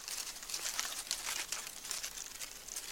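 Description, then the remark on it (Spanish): Continuous dry rustling and crinkling of insects in a forest running to take shelter under fallen leaves during a heavy rain, with a soft, steady crackle and no voices. “Sí, esos son los insectos que corren a refugiarse bajo las hojas.”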